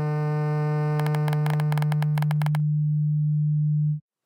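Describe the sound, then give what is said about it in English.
A steady, low sine-like tone hums for about four seconds, briefly overlaid midway by a rapid series of buzzy switching pulses, then cuts off abruptly, illustrating high-frequency switching that produces a sine-wave current for an electric motor. No one speaks. “And the faster they switch on and off, the more precisely the resulting current resembles a sine wave.”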